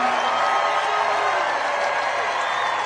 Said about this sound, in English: A man who, every time I introduce him, you know, because I'm not looking, you know, to get him to sell pillows and things, but, you know, every time I introduce him, he gets the biggest applause. Mike Lindell. See what I mean?